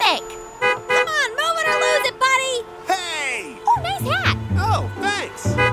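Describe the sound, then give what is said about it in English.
Car horns honk in a busy, overlapping chorus with steady held tones in a traffic jam on a weekday at 8 a.m., mixed with swooping, playful vocal sounds that may be voices imitating horns; a low engine rumble joins near the end. “A traffic jam on a weekday at 8 a.m.?”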